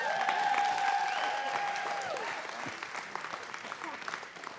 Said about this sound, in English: Come on, clap for Jesus.